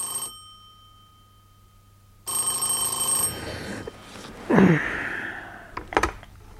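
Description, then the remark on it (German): A telephone rings with a single bright, electronic burst lasting about a second after a quiet stretch, followed by faint rustling and a sharp breathy sound, with no speech. “Sie sitzt in der grünen Limousine, die Nolans Vater gehört, und wartet auf Nolan, der in die Imbissstube gegangen ist, um zu telefonieren.”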